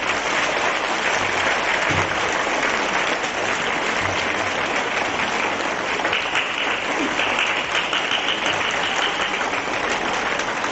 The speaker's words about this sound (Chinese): 现在让我们用最热烈的掌声恭请我们尊敬的卢军弘台长。